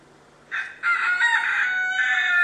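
A rooster crows loudly in a garden: a short opening note, then a long, drawn-out cock-a-doodle-doo that holds strong to the end, with no talking.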